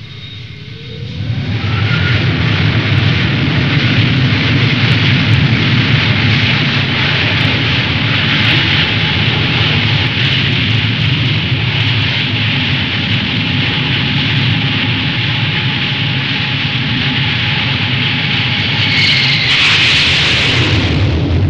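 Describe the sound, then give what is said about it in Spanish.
A loud, sustained roar of hijacked commercial airliners crashing into the World Trade Center towers in the United States blends with deep, rumbling explosion noise, rising abruptly after a brief quiet moment and holding steady for about twenty seconds, with no voices. “Aviones comerciales norteamericanos, secuestrados por terroristas relacionados con el integrismo islámico, se lanzan contra las torres del World Trade Center.”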